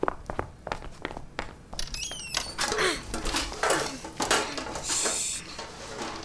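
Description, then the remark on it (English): Pots and pans clatter and bang amid wooden thumps and scrapes as someone climbs into a cabinet to hide, a busy jumble of metallic knocks lasting several seconds with no talking. “I'm getting in the cabinet.”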